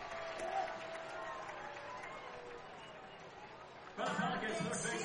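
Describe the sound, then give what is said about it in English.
A dense, steady roar of a baseball crowd at SRP Park with two outs in the ninth inning, many voices blending together, holding level before swelling noticeably louder near the end. “And the crowd starting to feel it.”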